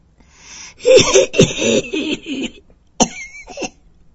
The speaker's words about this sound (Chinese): 开始剧烈咳嗽起来。